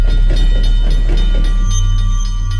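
A train rumbles steadily along the rails with a heavy low drone, faint rhythmic clacks, and thin high metallic tones ringing over the constant roar.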